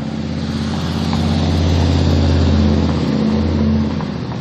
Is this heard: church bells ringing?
no